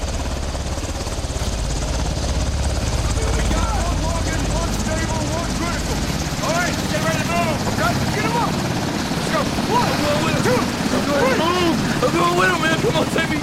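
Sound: helicopter landing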